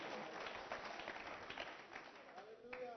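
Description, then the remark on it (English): A crowd claps steadily for a few seconds, a dense wash of many hands with a murmur of voices and a faint whistle-like tone near the end. “I think clap your hands for that one, because that's quite a point.”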